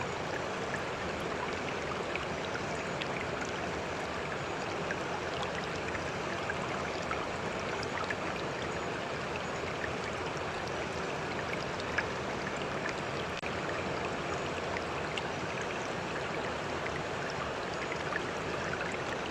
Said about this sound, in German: Jetzt stelle dir einen reißenden Fluss vor, der zwischen einem Gebirge hindurch donnert. Die Strömung ist ungeheuer schnell.